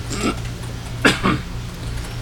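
Two quick, rough coughs from someone a little way off, set against a steady low hum with no one talking.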